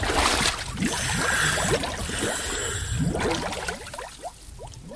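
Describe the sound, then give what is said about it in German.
Muffled, steady underwater ambience fills the whole stretch, a dense wash of low rumbling and bubbling with soft gurgles and faint clicks drifting through, no voices present. “Kommt, wir gehen mal für einen Moment unter Wasser.”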